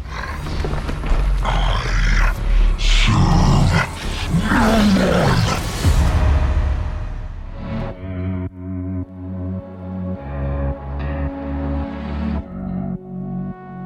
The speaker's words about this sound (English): I would take that recording and morph it with my dog's growls and a couple of other things to give it a lot more body, a lot more presence. And this is what it sounds like.